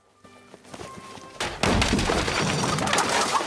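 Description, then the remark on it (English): A sharp wooden crack and thud as thieves force open the door of a poultry house, followed by a burst of loud, dense noise with chickens fluttering and squawking in a panic. “Outside in the grounds, thieves break into the poultry house.”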